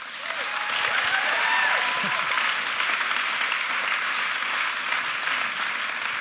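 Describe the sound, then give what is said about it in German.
Sustained applause from a sizable audience, a dense steady wash of clapping that holds at an even loudness throughout, with no voices standing out. “Applaus für euch.”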